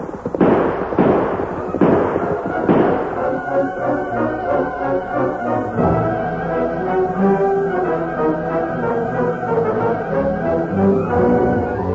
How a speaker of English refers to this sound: Listen, Kimosabe. Shooting. They woke me up.